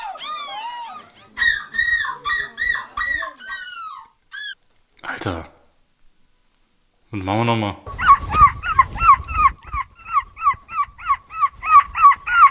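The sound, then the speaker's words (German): Human voices imitate seagull cries at a seagull-screaming contest in Belgium: bursts of shrill, yelping calls, a brief spoken phrase, then a loud, rapid run of rhythmic, wavering squawks. “Wenn ich jetzt sagen würde, dass das der Möwenschrei-Wettbewerb aus Belgien ist”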